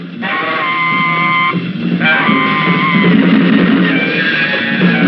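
Frenzied, screeching jazz from Pasolini's film-essay Notes for an African Orestes fills the whole stretch: a howling horn line holds and bends high wailing notes over a dense, churning band, loud and unbroken throughout.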